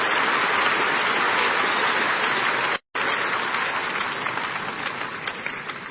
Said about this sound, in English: I can see you want to clap. Do it very well for the Lord, if it is for Him.